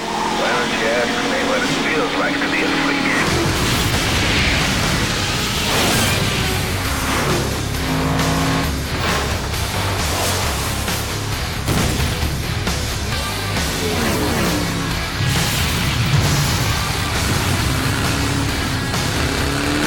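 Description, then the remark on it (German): The opening trailer of the racing game Flat Out 2, by Buckbeer Entertainment, fills the whole stretch with a loud, dense mix of roaring car engines and rising revs, a constant wall of mechanical noise that swells and surges without pause. “So, ihr könnt euch vorstellen, den Sound, den ihr jetzt hört, der gehört dem Trailer dieses Spiels, womit dieses Spiel eröffnet.”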